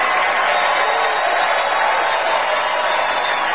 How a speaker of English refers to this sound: Meryl, stand up if you would. Everybody, please join me in giving Meryl Streep a totally undeserved round of applause, will you?